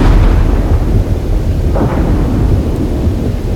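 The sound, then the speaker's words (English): Loud, close thunder from a big bolt of lightning rolls on continuously as a deep, heavy rumble that fills the whole stretch without fading, with no one speaking. “At one point, this big bolt of lightning comes down and it is not far from you.”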